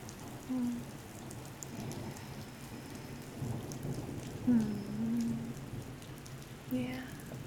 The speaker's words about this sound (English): We can get some rain noises in here. How are those? Are those good? These are some nice day rain noises, but I like them.